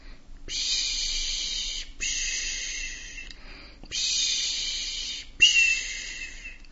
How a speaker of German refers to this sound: Sanft und regelmäßig umspült mich das Geräusch aus dem Hintergrund. Wellen und sogar Möwen kreischen.